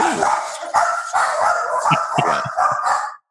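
Several dogs bark loudly at the mailman in a rapid, overlapping volley of sharp barks and yips, filling about three seconds before cutting off abruptly.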